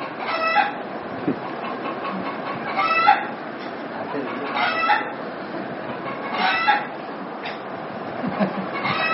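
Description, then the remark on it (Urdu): A rooster crows and clucks in repeated bursts over a steady noisy background, its calls recurring every couple of seconds. “مرغے کی آواز آ رہی ہے.”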